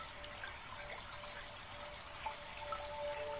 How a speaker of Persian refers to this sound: نزدیکتون یک رودخونه جاریه. صدای آب رو به وضوح میشنوید.